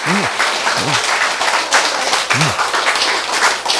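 An audience applauds, a dense, steady wash of many hands clapping that stays loud for the whole few seconds, with a few short vocal sounds rising briefly within it.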